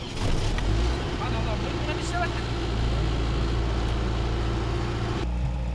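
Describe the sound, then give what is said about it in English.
A car engine, started by turning the key after the battery was put back in, runs in extreme cold with a steady, deep rumble that holds at a constant level for several seconds, with faint higher rattles riding over the low drone. “Once they have confirmed that the oil is liquid, they put the battery back in and turn the key to start the engine.”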